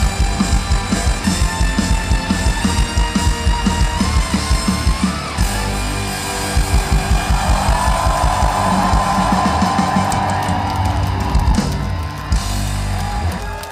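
A live band plays loudly at an evening concert in Kyiv, Ukraine, with a steady pounding drum beat while a large dancing crowd cheers and shouts throughout, the whole mix dense.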